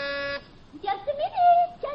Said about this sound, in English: And I'll press the buzzer.